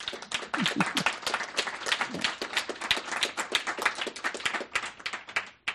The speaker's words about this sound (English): So a good round of applause for our wonderful audience, our radio audience, podcast, and internet.